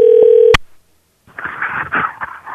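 A steady, loud electronic phone tone hums for about half a second while calling someone who does not pick up, and cuts off with a sharp click, followed by a brief silence and then a muffled, tinny voice.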